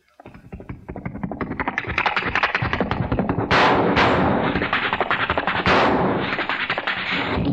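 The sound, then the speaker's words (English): A rapid, dense barrage of sharp Colt 45 revolver gunshots, fired by a cowboy on horseback, crack after crack with no pause, swelling loud within the first seconds and punctuated by a few harsher, hissing blasts. “Cowboy's on his back with a Colt 45, shooting.”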